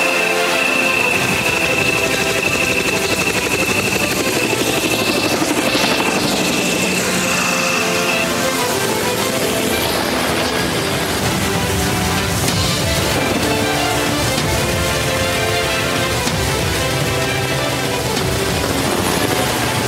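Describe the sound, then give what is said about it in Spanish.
A helicopter takes off and flies away, its rotors roaring and thudding steadily and loudly for the whole stretch, with a high engine whine early on and no voices. “Los militares se desplegan a la orden del general mientras que el helicóptero despega y se va.”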